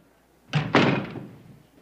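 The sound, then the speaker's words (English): A principal closes his office door: it swings shut with two quick, solid thuds a moment apart, the second louder, followed by a brief fading resonance. No voices are heard. “The principal closes the door behind them and points to a chair.”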